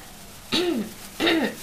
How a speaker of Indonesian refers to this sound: Ada batuk nih.